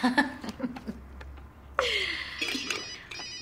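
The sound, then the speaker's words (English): After a moment of soft chuckling, a telephone rings out with a bright, steady electronic tone lasting over a second, clear. “Could you answer that for me?”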